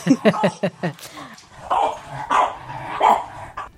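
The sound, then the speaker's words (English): Puppies yap in a quick burst of five or six high, sharp barks, then break into longer whining, whimpering cries that rise and fall, fairly loud. “Some happy puppies there.”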